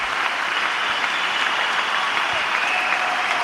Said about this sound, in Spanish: un discurso perfectamente elaborado que tenía en su cabeza y con el que dice adiós al mundo del tenis en medio de esta ovación que sigue sonando en Málaga en directo 12 y 28.